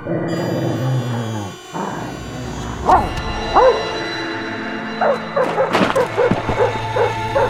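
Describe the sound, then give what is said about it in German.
A dog barks and yips in an irregular series of sharp bursts, clustering toward the end, over a steady background hum with no talking. “Ich hasse Hunde.”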